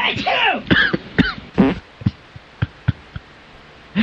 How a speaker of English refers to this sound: The sneeze, cough, fart triple play there, huh?